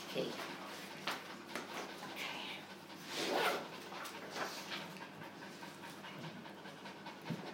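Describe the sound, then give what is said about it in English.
A guide dog pants steadily, quick breathy bursts repeating throughout, with a few soft whimpers and muffled background voices. “Obviously, his guide dog goes on the guide dog's bill”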